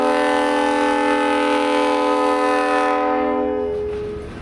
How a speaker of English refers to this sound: A train clanks and clacks its way into the rail yard from a nearby crossing.